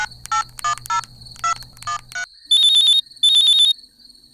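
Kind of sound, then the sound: signal or alarm, phone ringing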